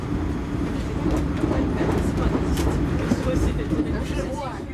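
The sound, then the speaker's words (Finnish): Steady rumble of a moving passenger train in Belarus in late January, travelling from Minsk south-east to Homel near the Ukrainian border, heard from inside the carriage, with dense low-frequency roar, faint rhythmic clatter of wheels and muffled background chatter throughout. “Olemme taas junassa, mutta tällä kertaa Valko-Venäjällä matkalla pääkaupungista Minskistä kaakkoiseen Homeliin lähelle Ukrainan rajaa.”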